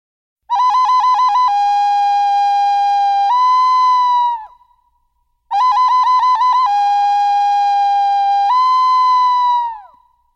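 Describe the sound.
A whistled imitation of a bird call, played twice: a quick warbling trill that settles into a steady mid-pitched note, then steps up slightly and fades. It is loud and clear, with no talking.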